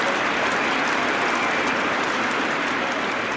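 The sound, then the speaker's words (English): A large crowd claps in a dense, sustained roar of applause, steady and loud throughout with no break, the standing ovation at a cricket ground for Triskothic making his 100 on his return to the side, filling the whole stretch without any voices. “And just for a second before Jeff Boycott comes in, let's hear the reception he's getting from a crowd who've got to their feet to applaud him.”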